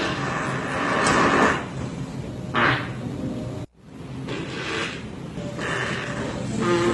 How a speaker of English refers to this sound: He posted 75 farting videos over the past 6 months. Oh, my God. Yeah, here's a little clip, and trust me, I got more than just farts, but here's him actually recording himself a little bit.